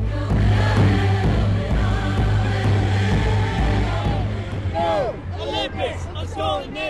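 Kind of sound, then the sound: crowd, protest crowd chanting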